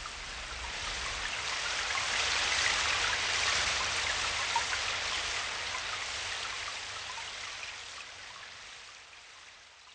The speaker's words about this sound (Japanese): 土砂降りの雨の中歩き出した。